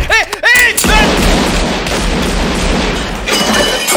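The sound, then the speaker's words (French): A staged gunfire sound effect played as a joke on Mix FM radio: a few quick swooping, whistling tones, then a loud, dense barrage of rapid shots that blur together for several seconds before easing slightly at the end. “auraient eu écho qu'on parle d'eux sur Mix FM et auraient pris un avion en mode vénère pour arriver jusqu'à la radio, armés jusqu'aux dents, puis auraient monté les escaliers jusqu'au studio.”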